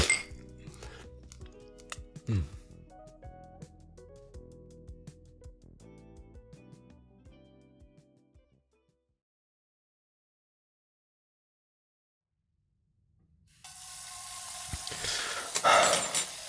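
Dishes and glassware clink and clatter steadily for several seconds as two people wash dishes, then fall silent; after a pause, a tap gushes with a loud, steady rush of running water.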